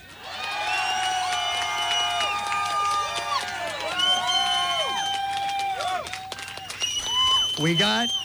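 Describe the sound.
A crowd cheers and screams steadily for about eight seconds, many high voices overlapping in sustained whoops and wavering yells, with some clapping mixed in, as an audience votes for a contestant by applause.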